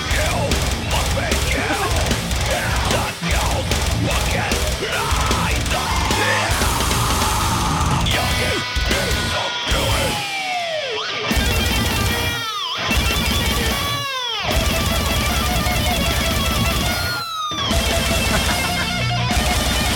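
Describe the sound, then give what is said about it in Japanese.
Loud, dense metal music with a rapid, relentless bass drum pounding underneath, driving the track at high speed alongside crashing cymbals and distorted guitars, continuous throughout. “これいるの、やっぱり メタル界いるのかな、 メタル界いるのかな、足 これバスドラ。”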